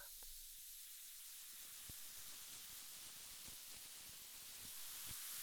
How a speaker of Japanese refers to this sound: パチパチ、シュワシュワ、音鳴ってる？じゃあこのままゆっくり耳のマッサージしてくね。